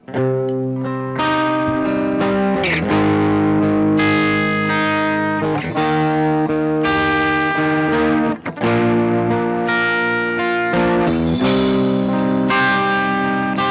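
A live band plays a loud rock song at an event in Carbogna, thick distorted electric guitar chords ringing and shifting every second or two over a steady, full-band backing, with no talking.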